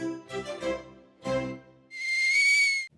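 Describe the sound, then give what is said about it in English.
A kettle put on for a cup of tea whistles, a loud, steady, high-pitched tone that holds for about a second and then cuts off abruptly, following a few short, lower warbling tones. “I'll put the kettle on.”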